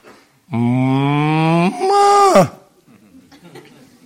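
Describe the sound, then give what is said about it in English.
A single loud, drawn-out moo from a cow, holding steady before swelling and sliding downward at the end, then fading into faint background noise. “We like to sing that song, "The Cattle Are Lowing." You know what that means?”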